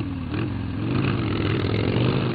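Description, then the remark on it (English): Harley-Davidson motorcycles at the Sturgis motorcycle rally in South Dakota roar steadily, a deep, rumbling engine growl with dense low throbbing that swells slightly in loudness toward the end, with no voices. “Those are Harley Davidsons, a sweet sound to bikers, but probably indistinguishable from the overall roar being heard in Sturgis, South Dakota this week.”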